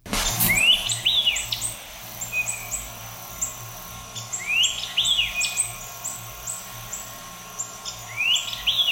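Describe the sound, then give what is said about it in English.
A white-eyed vireo sings a quick, emphatic phrase of sharp, bright notes, repeated three times with pauses between. Fainter high chirps from other birds continue steadily in the background. “And that dominant thing calling there is a bird we profiled in March of 2021, just, 6 months ago or so.”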